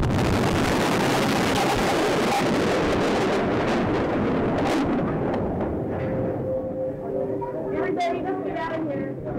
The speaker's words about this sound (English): 168 people, including 19 children, were killed in the explosion, and 500 more were injured.